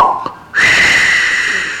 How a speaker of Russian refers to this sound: Вдруг шар лопнул.